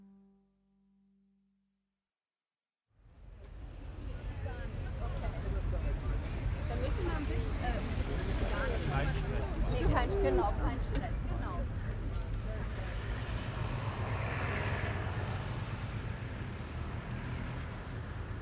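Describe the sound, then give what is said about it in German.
Busy ferry-port ambience at Split, Croatia, in late summer: a steady low rumble of cars, buses and taxis constantly circling, mixed with the drone of boats coming in to anchor and a wash of voices. It is continuous and moderately loud after a brief silent start. “Am Fährhafen von Split stinkt es nach Abgas. Kein Wunder. Pausenlos kreisen Autos, Busse, Taxis.”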